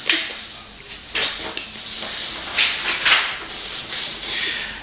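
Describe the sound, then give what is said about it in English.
Sheets of paper rustle and crinkle in a steady stream of dry, hissy bursts, swelling louder several times as a man reading off lots of bits of paper shuffles and handles the pages, with no voices. “Now, I have to say that at this point he is reading off of lots of bits of paper, which is what you can hear now.”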